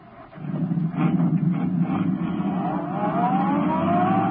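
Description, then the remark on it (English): A sedan's engine roars steadily and then climbs in pitch as Britt Reed presses down on the accelerator, speeding along a concrete road after Brinkley's car, loud throughout, with no voices. “Turning onto the road, Britt Reed pressed down on the accelerator. The sedan sped along the concrete after Brinkley's car.”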